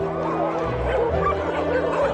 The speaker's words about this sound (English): visit a place where hundreds of stray dogs run free.